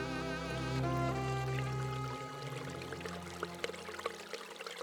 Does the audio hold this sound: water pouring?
yes